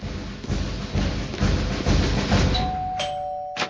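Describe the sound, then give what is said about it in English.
A front doorbell rings near the end, a bright ringing chime with clear sustained tones, following several seconds of steady, rumbling background noise and a soft thud. “Joey, the door.”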